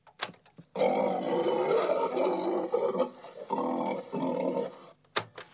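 A pig named Einstein grunts and snorts in a long, loud, throaty run lasting about four seconds, presented as reciting the second law of thermodynamics, broken by a couple of short pauses, with a few sharp clicks before and after.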